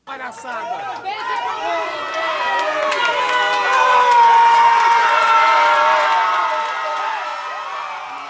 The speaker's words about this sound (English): To Brazil now, where Luiz Inácio Lula da Silva has won Brazil's presidential election. Supporters in Sao Paulo broke into raucous applause at the official news.